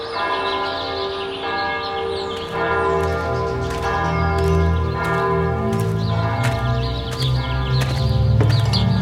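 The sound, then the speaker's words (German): The bell of St. Nikolai church in the Altes Land marshes, dating from 1200, tolls repeatedly from its freestanding bell tower at a slow, steady pace, each loud strike ringing out and humming into the next, with a faint clopping of horse hooves in the background. “Hören Sie die Glocke von St. Nikolai schlagen? Sie stammt aus dem Jahre 1200.”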